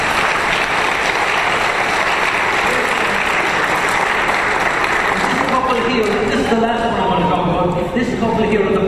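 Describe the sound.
A church audience claps steadily and loudly in a dense, even patter, applauding a man for taking care of a lady and bringing her to Mass. About halfway through, a voice starts speaking over the continuing applause.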